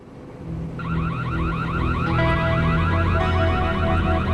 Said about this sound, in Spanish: 12:45 de la madrugada del 1 de abril de 1988... los guardias de seguridad de Lincoln Hill Estates en Paradise Valley, Arizona, oyen una alarma de robo y llaman a la policía.